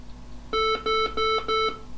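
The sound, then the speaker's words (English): Four steady electronic beeps from a home server after it is switched on, signalling that it is fully up, evenly spaced in a quick regular rhythm, each a clear mid-pitched tone with a buzzy edge, over faint background hum. “After switch on, the server emitted four beeps to signal that the server was fully up, with a detached screen session running, ready for remote login.”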